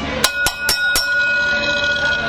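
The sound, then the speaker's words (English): A wrestling ring bell is struck four times in quick, even succession at the end of a match, each clang bright and ringing, with the tone lingering afterward over a busy crowd-like background. “And now Big Man in Charge, Chris, calls for the bell.”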